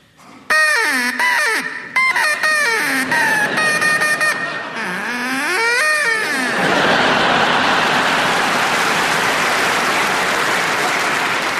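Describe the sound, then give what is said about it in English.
A person imitates a duck with a run of loud, nasal quacks that swoop up and down in pitch for several seconds, then an audience breaks into sustained applause. “Can we please hear your duck”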